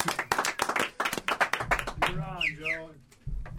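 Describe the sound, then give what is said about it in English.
A recorded track of a crowd clapping and cheering: rapid, loud claps, the sharp, dense claps filling the first half, then a cheering voice whoops with rising and falling pitch over low rumbling crowd noise. “Let's give Joe a whole track of people cheering.”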